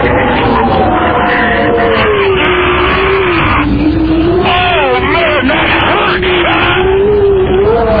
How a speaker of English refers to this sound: And you can hear the phone being banged around in the wind there.